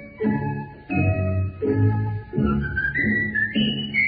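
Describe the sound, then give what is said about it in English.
Someone whistles a bright, rising tune in five short phrases, with a steady instrumental accompaniment underneath. The melody is clear and upfront, with each phrase climbing a little higher than the last. “Shall I sing? Shall I whistle?”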